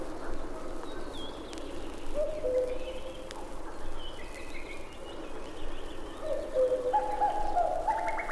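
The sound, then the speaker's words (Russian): Male cuckoos call, their soft two-note cuckoo phrases repeating at intervals over a steady outdoor hiss, with faint higher bird chirps mixed in. No one speaks. “Все время слышны кукушки.”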